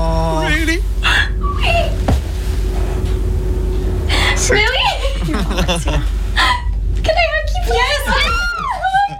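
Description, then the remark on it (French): A woman cries with emotion after being told she got a part: loud, choked, quavering sobs with sharp catching breaths and hiccup-like gasps, breaking into wavering high-pitched wails throughout. “Et là, elle pleure.”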